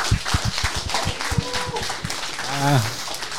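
A burst of audience applause, a dense wash of clapping with some rhythmic claps standing out, while a voice or two calls out over it toward the end.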